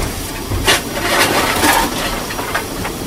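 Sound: steam locomotive hissing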